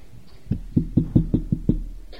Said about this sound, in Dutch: Klopt hij daar tegen de deur. Sst. Niks. Hij klopt weer. Harder.